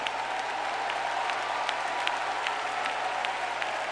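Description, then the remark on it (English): A Pentecostal church audience claps their hands together in a dense, steady wash of applause, with sharper individual claps popping out every half second or so and a faint low hum underneath. “Come on, clap your hands and shout.”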